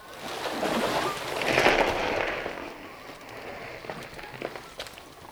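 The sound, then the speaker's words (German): Continuous scraping and crackling rustle as two divers hastily haul a rowboat ashore and push it into a dense thicket of blackberry brambles, swelling midway and then breaking into sharper snaps of twigs. No one speaks. “Eilig wuchteten die beiden Taucher das Ruderboot ans Ufer und schoben es in ein dichtes Gestrüpp aus Brombeersträuchern.”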